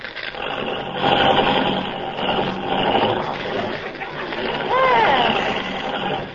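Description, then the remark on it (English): An old car engine runs loud and steady with a rough, rattling drone throughout, while a brief wavering whine or vocal sound rises and falls near the end. “You know, this car doesn't work very well. Start it again.”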